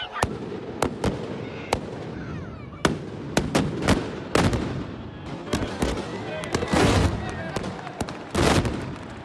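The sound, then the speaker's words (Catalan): A tronada firecracker barrage bursts in a square at the Mercadal, a rapid, irregular string of loud cracks building into dense overlapping blasts near the end, with a rumbling wash of crowd noise underneath. “la tronada fa que el món s'aturi quan esclata i que tot l'univers es concentri en aquesta plaça al Mercadal.”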